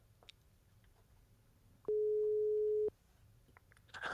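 A single steady telephone ringback tone of an outgoing call sounds for about a second against a quiet, low background hum, then cuts off, followed by faint rustling.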